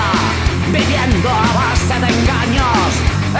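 A loud punk rock song plays continuously, with dense distorted guitars, pounding drums and shouted vocals filling the mix from start to finish.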